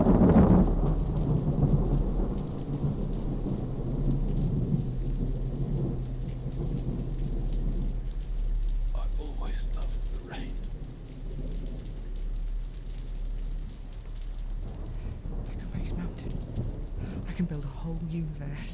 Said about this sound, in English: And now it's raining in my garden, and it's supposed to be perfect, and it isn't, and it is your fault.